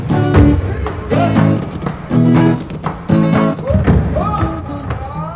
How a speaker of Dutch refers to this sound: Stampend met hun gumboots laten mensen in Zuid-Afrika horen hoe blij ze zijn of hoe boos. Ze gebruiken hun gumboots om hun stem te laten horen.